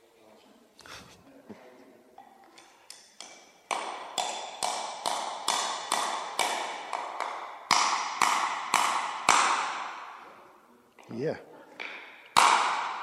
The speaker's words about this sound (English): If you want to use that tool, you've got to pick up the hammer, you've got to hammer it, you've got to bang, keep banging that nail on the head until it's all the way home.